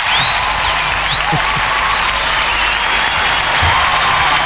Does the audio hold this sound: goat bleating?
no